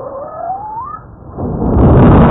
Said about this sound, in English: That's 10 minutes of volcanic tremor compressed into 10 seconds. If you step back and listen to a full hour before an eruption, you can hear the intensifying pressure inside Mount Redoubt.